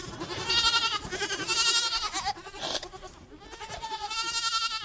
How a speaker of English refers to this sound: Those are Lee's goats. He has about 40 of them at Twig Farm in Cornwall.